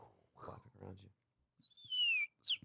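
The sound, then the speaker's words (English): After a moment of voices, someone whistles an imitation of a Midwest robin's song: a loud, downward-sliding whistle followed by a quick, sharp high chirp. “We'll go Midwest Robin.”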